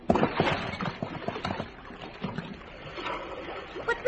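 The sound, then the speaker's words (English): A person plunges into water with a broad splash, followed by several seconds of churning, sloshing water as they move about; faint voices may sit underneath. “Well, when you get in the water, I'll throw you the rope.”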